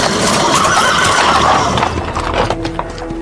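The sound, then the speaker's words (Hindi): Several horses neigh and whinny over a dense, rapid clatter of galloping hooves, loud, the hoofbeats thinning out toward the end as the horses seem to come to a stop in front of a guest house. “ऐसा लगा मानो सारे घोड़े दौड़ते हुए गेस्ट हाउस के सामने ही आकर रुक गए थे।”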